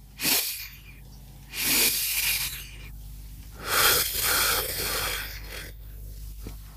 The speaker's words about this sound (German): ein langes Ausatmen durch den Mund. Ja, der zweite Atmer sollte tiefer sein